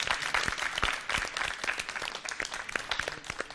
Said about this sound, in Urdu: بہرحال لائق داد و مبارکباد ہیں آپ سب. ان تمام خواتین کے لیے ایک زوردار تالیاں.